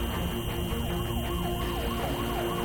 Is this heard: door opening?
no